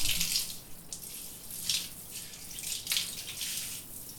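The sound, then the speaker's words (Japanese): Shower water rinsing shampoo lather from someone's hair, a steady hiss of spray that swells in several surges as the stream moves over the head, with no talking. “はい、じゃあ流していくよ。泡残りがないようにしっかり流すからね。”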